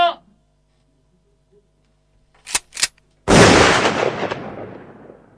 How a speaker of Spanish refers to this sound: Hasta General Alvear fue la policía pampeana y empezaron los balazos luego que el rancho rodearan.